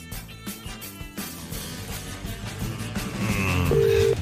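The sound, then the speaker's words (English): A telephone ringing tone sounds through a handset as a Today FM radio presenter calls a goat herder with the Old Irish Goat Society, its steady electronic beeps set against a busy musical background that grows louder toward the end. “Hey, it's ringing.”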